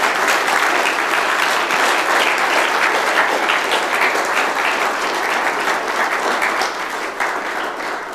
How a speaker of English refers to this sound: So please a round of applause if you were, first of all, stand up please if you were a speaker. Okay, some of you are standing already, so maybe you should stand a little taller. Yeah, a round of applause for all the speakers.